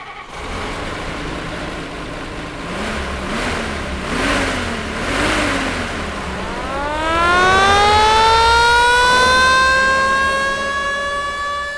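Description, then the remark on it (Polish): A restored 1973 Star 25 fire truck on a Star 21 chassis, with French-licensed bodywork and all original parts: its mechanical siren winds up from a low growl to a loud, steady wail with rich overtones, over the rumble of an idling then revving engine. “To jest 73 rok. To auto odnowiliśmy w tym roku.”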